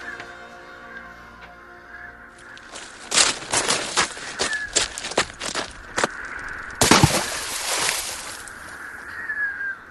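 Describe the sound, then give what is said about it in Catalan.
A person runs toward a bridge: a quick run of sharp, thudding footsteps builds over a few seconds, then they jump into the water with a loud splash. A steady outdoor background and a faint high call are heard. “Així que, com un llampec, arrenca a córrer cap al pont i es llença a l'aigua.”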